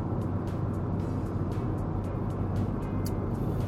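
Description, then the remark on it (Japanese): Steady, loud highway road noise, a continuous low roar of tires and engine as a car travels at speed on a Japanese highway near Highway Oasis Sunagawa, with a kei car passing in the overtaking lane and faint brief swishes of traffic alongside, no talking. “おお、追い越し車線、車ちっけ、こいつ頑張りすぎだろ。”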